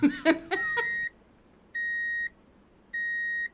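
Three steady, high-pitched electronic beeps at an even, unhurried pace, like a vehicle's reversing warning, each lasting about half a second. A brief voiced sound, like a short laugh, comes just before the first.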